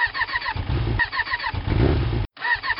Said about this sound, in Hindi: अरे स्टार्ट हो जा, नहीं तो तेरी मालकिन फिर शुरू हो जाएगी नई बाइक खरीदने की रट को लेकर।